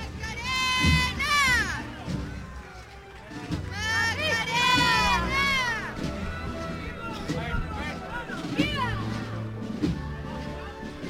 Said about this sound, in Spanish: Entre vítores, entre guapas. Y aplausos para la Esperanza. Explosión de cariño, lo que le dirigen a esta Virgen, a la Esperanza.